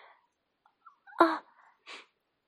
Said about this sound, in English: Oh, darling, I think I need to sneeze again.